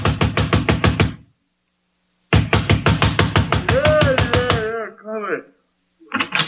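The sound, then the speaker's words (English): Loud, rapid fist pounding on the wooden door of a night-shift cab driver's home in two insistent bursts separated by a pause, the second run overlapped by a man's voice calling out, then a brief resumption. “But I did get the address of the driver who worked nights there, and 10 minutes later I was pounding on his door.”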